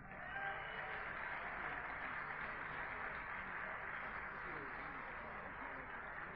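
Steady audience applause at an evening show in Horsham for the band that opened the show, a dense wash of many hands clapping that holds at an even level for several seconds without pause, fairly quiet and slightly muffled.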